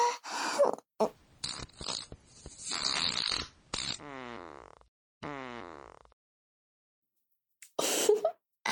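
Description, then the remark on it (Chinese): A string of loud farts: several short, sputtering blasts, then a longer buzzing one that wavers and sinks in pitch, a few seconds of quiet, and a final raspy burst. “我可真是太能放屁了。”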